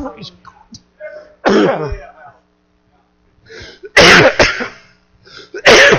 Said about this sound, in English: That's worth coughing over.